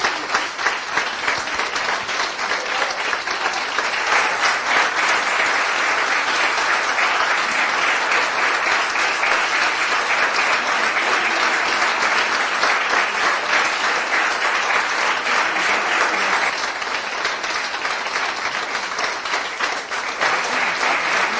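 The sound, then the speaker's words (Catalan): An audience at a plenary session applauds steadily for the director of the Municipal Music School, some people standing. It is a dense, even wash of many hands clapping at once for about twenty seconds, holding a constant loudness throughout with no voices breaking through. “en aquest cas la directora de l'Aula Municipal de Música, i que continuen, doncs, en aquest minut llarg, continuen aplaudint.”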